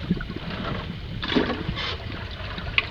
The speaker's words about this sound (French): Alors là, ça évoque des bateaux parce que c'est probablement les rames, mais si on regarde pas. Et là, on entend très bien la rame.